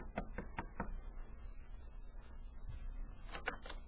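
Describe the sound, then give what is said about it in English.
Four quick, evenly spaced knocks rap on the wooden door of Rosa Cavallari's suite as Bradford White calls in the evening, followed by a quiet pause and then a short second burst of knocking near the end; no one speaks. “She sent a message to Bradford White through Tex, and White knocked on the door of her suite the following evening.”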